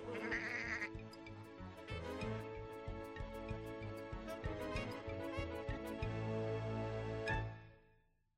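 Sheep-like bleating carries a bouncy polka tune over a steady oom-pah beat, loud and continuous for several seconds before fading out at the end.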